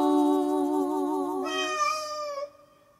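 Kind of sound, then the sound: animal, cat meowing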